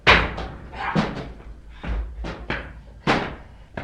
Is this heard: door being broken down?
yes